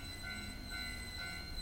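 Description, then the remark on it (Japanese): The first train of the day rolls past a sounding level crossing at dawn in a steady, loud rumble, with a thin metallic whine of wheels on rails running above it throughout; no one speaks. “電車が通り過ぎている。”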